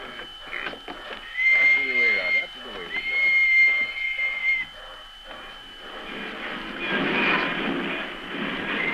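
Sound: train running on rails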